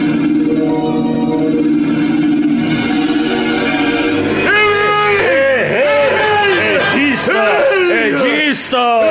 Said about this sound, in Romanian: Ce te-a bucat, omule? Ce zbieri în halul ăsta? Nu poți să dormi și tu ca un om normal?